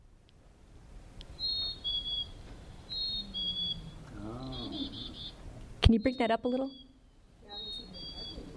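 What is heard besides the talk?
cricket chirping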